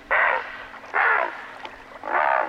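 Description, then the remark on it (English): A great blue heron gives its territorial call, used to challenge and scare away intruders, including other great blue herons: three loud, harsh, raspy squawks, each about half a second long, separated by short pauses, with no other sounds around them. “The herons challenge and scare away intruders, including other great blue herons, by sounding this call.”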